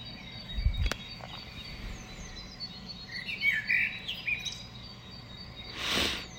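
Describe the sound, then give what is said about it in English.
Quiet birdsong at around 5 o'clock in the morning, with scattered chirps and tweets over a low background hush, plus a sharp click near the start and a brief rustle at the end. “It's gotta be 5 o'clock in the morning. Birds are up.”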